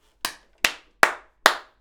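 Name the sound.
single hand clap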